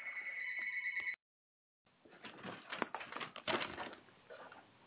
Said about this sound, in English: Sorry about that, people. We got my phone ringing right here.